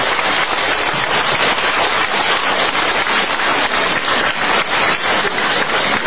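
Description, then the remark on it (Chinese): A studio audience applauds warmly for the station head (Taizhang), the dense crackle of many hands clapping at once, holding a steady, loud level for about six seconds with no voices over it. “大家知道台长为我们看图腾需要耗费很多的气场，所以请大家给台长热烈掌声，让他谢谢。”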